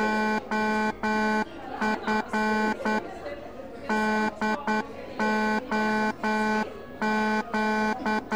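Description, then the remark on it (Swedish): Morse code message beeps, built from rhythm sequences of letters: a loud, buzzy mid-pitched tone pulses on and off in a rhythmic pattern of short and longer bursts, with a faint murmur of background noise in the gaps. “Det här som vi lyssnar på nu, det är ett morse-meddelande.”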